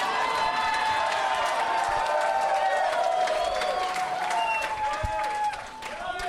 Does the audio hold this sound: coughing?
no